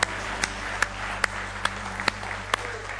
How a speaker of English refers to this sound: Somebody say he's real. Give him one more good hand clap of praise if you love him with all your heart.